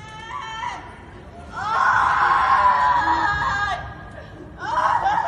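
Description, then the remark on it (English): A woman screams in anguish, a brief cry followed by a long sustained wail and another rising scream, loud and close over a low background murmur. “Out in the streets, screaming his name.”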